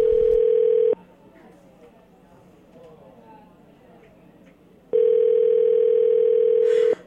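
A steady, loud telephone dial tone, heard before a call is placed, hums for about a second, cuts out during a stretch of faint background noise, then returns just as loud for another two seconds.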